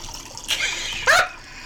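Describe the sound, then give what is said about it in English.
Wine from a box spills into a glass as another glass is poured, in two brief splashing spurts, fairly loud, with quiet pauses around them and no one talking. “I need to pour myself another glass of wine. Hold on. Out of my box.”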